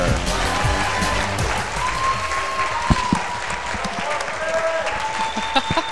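An audience claps steadily for the full six seconds, a dense, even wash of applause with scattered sharper claps and cheering and whoops rising above it.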